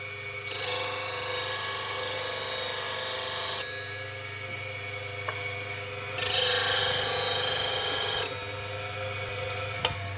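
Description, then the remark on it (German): A dull chisel edge is ground razor-sharp on a running sharpening machine, a steady motor hum under bursts of high, hissing metal-on-stone grinding, louder in one stretch, with a few sharp clicks. “Also ich hebe den jetzt an die Schleifmaschine und die Schneide, die halt stumpf ist von vorher, die versuche ich jetzt wieder Rasiermesser scharf zu machen.”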